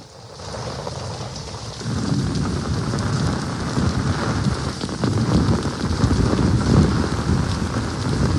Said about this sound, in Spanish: Así llovía hace unos minutos, son sonidos recogidos en la esquina del convento.